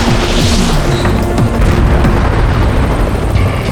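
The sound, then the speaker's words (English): A rocket fired from an Apache attack helicopter: a loud, sustained rushing roar and rumbling boom layered over the steady, droning hum of helicopter engines and rotors, with no voices. “One of the Apaches opened up with a rocket.”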